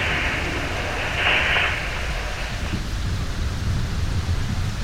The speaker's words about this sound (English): Thunder crashes and the comms go silent for the rest of the storm.